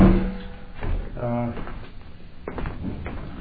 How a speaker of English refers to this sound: Let me just shut this door over here so we can keep that.